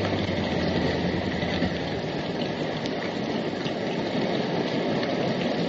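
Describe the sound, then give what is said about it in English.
Steady rain falls continuously, a dense, even hiss of drops with no pauses, moderately loud, with no voices. “Well, the rain is monotonous, but the silence is worse.”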